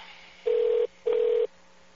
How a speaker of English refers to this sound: Let's call him on the cell phone while you do this.